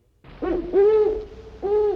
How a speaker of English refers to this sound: The hooting of the owl seems to ask the question, who? Owls know who they are, all right. They're probably asking, who are you? Owls like the country, living in barns or the hollow of a tree. They hate the noise of city traffic.